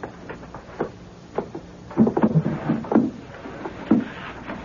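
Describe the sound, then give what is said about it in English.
The drawers on the left-hand side of a desk are pulled open and emptied, with an irregular run of wooden clunks, thumps and scrapes, loudest in a busy cluster midway and again near the end, with no talking. “Just the drawers on the left-hand side of the desk. Well, why don't you empty them while I take these down to the wagon?”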